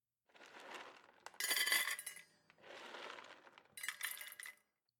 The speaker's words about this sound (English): I'm going to put some food in your bowl, then let you out of your cage. Okay, puppy? Wait there.